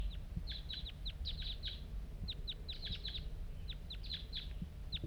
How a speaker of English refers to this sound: There's a wild bird around here.